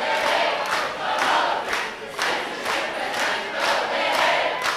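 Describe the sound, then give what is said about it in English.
A large crowd of students chants loudly in unison at a rain-soaked protest rally on a university quad, with a steady repeating rhythm of shouted bursts roughly every second. “After attending a rain-soaked rally on the quad, they came to the university YMCA for Salida's first news conference since losing his position.”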